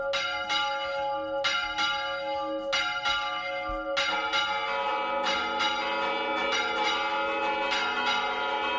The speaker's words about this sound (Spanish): Los obispos españoles han pedido a todos los párrocos que este domingo a las 12 del mediodía repiquen las campanas de los templos, un gesto que busca también acompañar la soledad de miles de personas que han fallecido y mostrar esperanza y consuelo